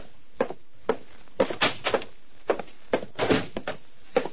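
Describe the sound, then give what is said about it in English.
A heavy oak door is worked open and shut, a series of knocks, latch rattles and dull thuds spread over a few seconds, with no voices. “Titus Wolfe, secretary to Vincent DeWitt, nodded toward the heavy oak door”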